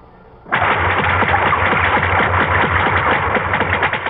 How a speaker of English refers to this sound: If you agreed with these guesses, you've been fooled, because each sound was made by a whale. That's right, a great big blubbery old whale just buzzing and clicking and grunting away deep down in the ocean.